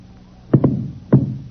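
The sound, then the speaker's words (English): Three sharp gunshots ring out, a quick pair followed by a single shot about half a second later, each with a short echoing tail. No one speaks. “If you hadn't shot first...”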